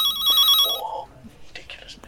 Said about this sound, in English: that's Fliss's phone. I'll have to answer it.